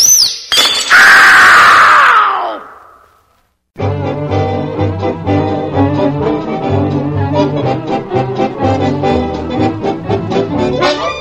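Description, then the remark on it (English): A loud crash of cups and saucers breaking, with bright clinking shards that ring out and fade over a couple of seconds, followed by a brief silence and then music starting up. “Flying saucers, cups and saucers are breaking up my happy wedded life.”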